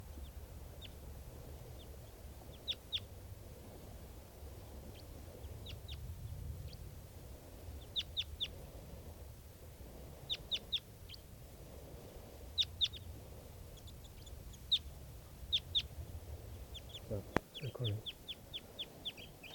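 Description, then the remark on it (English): Repeated short, high-pitched calls from wild birds in quick clusters over a low rumbling background, with a faint voice murmuring underneath and a sharp thump near the end. “And this is one of the birds that's calling here.”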